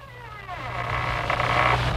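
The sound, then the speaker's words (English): The squeaking door sound effect that opens the Inner Sanctum program: a drawn-out creak as the door opens, its pitch rising and wavering as it grows louder over a steady low hum, with no voices. “why don't we play this squeaking sound together with Raymond as he sounded in those days?”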